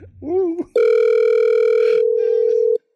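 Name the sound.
telephone ringing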